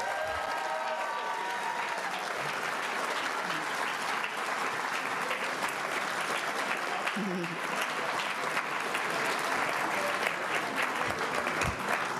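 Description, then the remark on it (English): A crowd claps steadily in a final round of applause for the honorees at a county employee service-recognition ceremony, a dense, even patter of many hands lasting throughout, with faint voices mingling underneath. “Let's have a final round of applause for all our honorees.”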